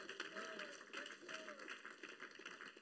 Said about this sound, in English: Come on, clap your hands to the Lord.